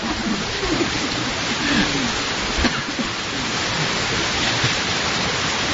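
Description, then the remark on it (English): Heavy rain from a late-arriving storm pours down in a steady, dense hiss that never lets up, loud, with a faint voice murmuring somewhere beneath the downpour. “Yeah, this is a serious rain.”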